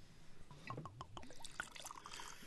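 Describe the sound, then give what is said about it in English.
Charleston Sercial Madeira wine pours steadily into a glass at a wine tasting for a couple of seconds, a soft gurgling trickle with a rising ringing tone as the glass fills, fairly quiet, with no talking. “Okay, shall we all pour a glass?”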